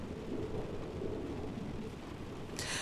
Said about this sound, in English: You and me, this moment, right now, lying in bed, in each other's arms, listening to the rain, this is perfect.